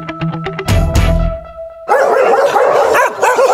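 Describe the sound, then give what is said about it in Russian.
A loud chorus of many dogs barking at once, overlapping and continuous, at a shelter for stray animals in Gus-Khrustalny that holds 340 dogs. It begins after a brief ringing tonal sound at the start, with no one speaking. “В приюте для безнадзорных животных сейчас 340 собак и почти полсотни кошек.”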